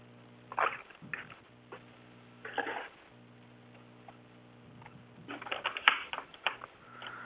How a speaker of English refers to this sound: So, okay, I'm putting an action in here. Hang on a sec. I'm not typing very well today.